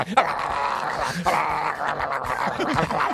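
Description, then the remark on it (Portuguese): A dog, recorded as the vocalist of a pet metal band, growls and snarls in short bursts over a loud, dense wall of distorted heavy music played by the band without a break throughout. “Os caras pegam um cachorro, grava. Vocalista animal tem vários aí. A banda tocando as ganhas, né? E o cachorro.”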